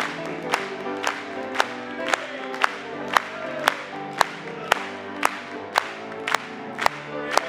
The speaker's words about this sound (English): Let's clap it to Him.